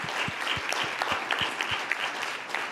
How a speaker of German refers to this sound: Einmal Applaus für Kerstin, dass er das auch schafft.